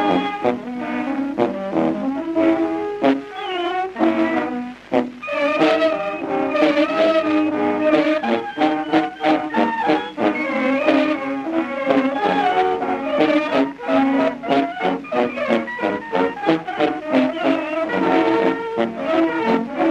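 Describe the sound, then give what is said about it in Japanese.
A roughly 110-year-old recording of a band of wind instruments such as horns playing an instrumental early Argentine tango, with sustained horn melodies over a steady, accented rhythm, continuous and fairly loud, with no voices. “まあホルンとかの管楽器で組んでいるバンドらしいんですけれども”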